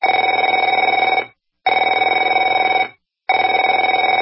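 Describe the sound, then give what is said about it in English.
A telephone rings in three loud bursts of about a second each, separated by short silences, with a steady buzzy trilling tone and no voices. “Afraid to answer it?”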